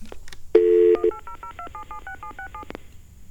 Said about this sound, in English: I think we should call 1-800-APROPOS. Just because I love listening to those DTMF tones.